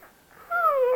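A dog being petted on the top of its head lets out a big yawn: a single drawn-out, whiny vocal sweep that starts fairly high and slides steadily downward in pitch, loud and alone after a quiet start.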